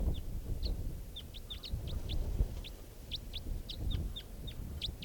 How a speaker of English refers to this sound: And flying right over. So. Couple of crossbills here right down low.